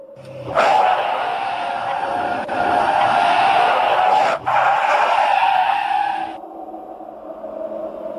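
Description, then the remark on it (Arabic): A sudden burst as one of a vehicle's tires blows out gives way to a loud, sustained tire screech and hiss as the vehicle skids for several seconds, briefly catching twice before cutting off and leaving a low rumble. “أحد الإطارات انفجر.”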